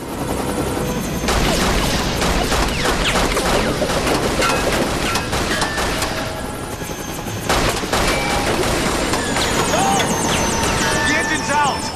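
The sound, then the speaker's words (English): Bursts of gunfire crack over the steady roar and thump of a helicopter, with sharp impacts and loud, dense noise throughout and faint voices mixed in, as Jack, beneath the downdraft of a CTU helicopter, fires at the engine of Marwan's helicopter. “Trapped beneath a downdraft of the CTU helicopter, Jack attempts to disable Marwan's chopper by firing at the engine.”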